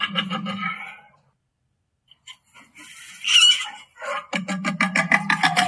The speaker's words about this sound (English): That squeak is the baby jaguar. Yeah, you don't want to mess with that, guys. No. No. We are hardwired to fear that deep guttural kind of sound.